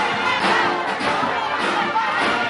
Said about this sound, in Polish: na lotnisku w Santiago de Cuba, licznie zebrani Kubańczycy śpiewem i głośnym skandowaniem powitali szczególnego gościa. Gdy papież pokazał się w drzwiach samolotu, prócz dźwięku orkiestry, słychać było okrzyki wywatujących Kubańczyków.